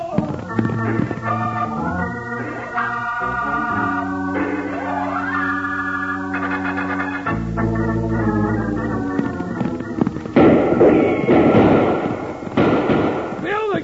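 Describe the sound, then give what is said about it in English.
Scattered gunshots crack out in sharp, irregular bursts as riders on horseback are fired on during a chase, over loud, sustained dramatic music, growing busier and harsher toward the end, with voices mixed in. “With their horses, but they might with those bullets. Ace's friends don't seem to care whether they hit him or not now.”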